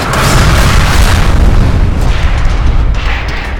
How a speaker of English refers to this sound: The craft hit hard, slamming Douglas back and forth in his seat. The crash webbing cut into him cruelly, but he hated to think of what it was doing to his father.